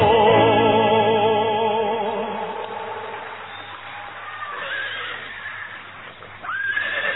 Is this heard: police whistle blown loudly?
no